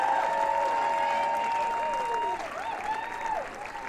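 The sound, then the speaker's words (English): An audience in Burlington applauds and stomps their feet after a Christmas song, a dense wash of clapping running the whole length, while sustained ringing tones hold and bend above it before fading slightly toward the end. “Thanks for listening. Stomping your feet.”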